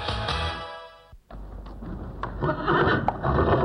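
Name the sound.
horse neighing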